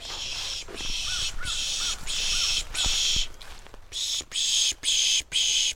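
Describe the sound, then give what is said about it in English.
A birder on a rocky road near Pittsburgh on New Year's morning pishing, making about nine loud, breathy hissing bursts in a steady rhythm to imitate a predator call and attract birds, with faint bird chirps between them. “As he stands on a rocky road near Pittsburgh with his binoculars pointed up at the sky, he mimics a predator sound.”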